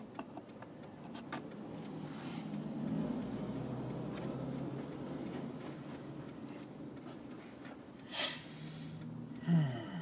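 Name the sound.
car driving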